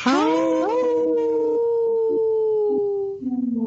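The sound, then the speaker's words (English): Several people on the radio show Native Roots Radio let out loud, overlapping wolf-like howls for its Howling for Wolves segment. Each voice rises, then holds a long, steady note for a few seconds before trailing off, with a lower howl starting at the end. “Howl! Ooh, good one. Good one. Good one, everyone.”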